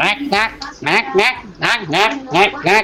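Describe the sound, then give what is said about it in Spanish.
A rapid run of nasal, duck-like quacks, about a dozen short bursts in an uneven rhythm, loud, with a voice-like, chattering quality. “Oh, parece un pato este.”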